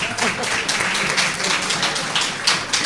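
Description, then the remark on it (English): Steady applause from an audience at a charity event for sick children fills the whole moment, a dense wash of many hands clapping at even loudness with no single claps standing out. “On les applaudit encore bien fort.”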